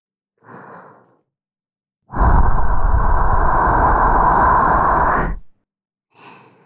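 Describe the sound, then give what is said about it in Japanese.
Breathing close to the ear: a soft short inhale, then a long, loud, rushing exhale lasting about three seconds, followed by another faint breath. No one speaks. “後ろからだと、お兄さんの顔は見えませんけど、息遣いはわかっちゃうんです。”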